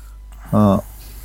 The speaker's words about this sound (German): Entschuldigung, muss mir mal eben die Nase putzen.